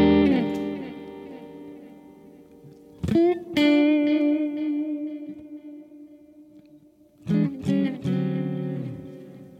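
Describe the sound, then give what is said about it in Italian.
An electric guitar plays sustained notes and chords through an AI-generated effects preset, with a light wash of reverb and a faint delay trailing each strum. No one speaks. “C'è un filo di riverbero e un filo di delay, proprio leggeri.”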